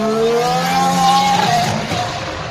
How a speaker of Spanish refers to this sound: Así suena el coche de Carlos Sainz, el McLaren.